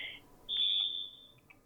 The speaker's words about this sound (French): Attends, j'attends juste parce qu'il y a la sonnerie du téléphone, du coup.